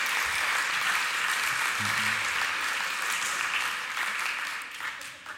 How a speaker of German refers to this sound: Komm, einen herzlichen Applaus für den Goliath des Tages. Come on.